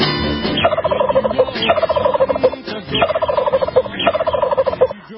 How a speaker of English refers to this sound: I knew those turkeys were going to go crazy in the studio.